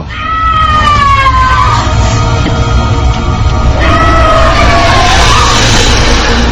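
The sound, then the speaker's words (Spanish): A beast screams and howls loudly in long, wavering wails that slide down and swell again, two drawn-out cries over a dense rumbling background, with no talking, as the sign of the cross is made during a ritual. “Cada vez que hacían el signo de la cruz, la bestia gritaba y aullaba.”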